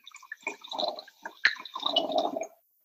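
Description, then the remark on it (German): Wine glugs and splashes into a glass for about two and a half seconds, a bubbly liquid gurgle with a sharp clink partway through, then it stops. “Und deshalb würde ich sagen, dass wir da jetzt mal direkt das Glas füllen und den Wein probieren.”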